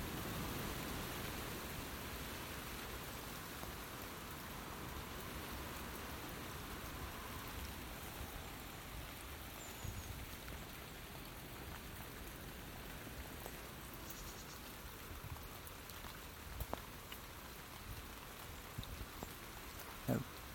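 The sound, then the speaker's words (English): Steady rain falls outdoors in a continuous, even hiss, with a few sharper drops tapping toward the end. No one speaks. “This hat's brilliant. Really does keep the rain off your head.”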